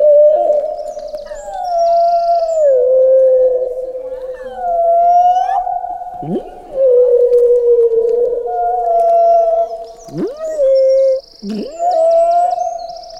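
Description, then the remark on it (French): A human voice imitates whale song with long, sustained moaning tones that slide and waver, broken by a few sharp downward swoops. It is loud and continuous for about thirteen seconds. “Fait que, si j'avais pas eu de baleine dans ma vie, j'aurais jamais chanté comme une baleine.”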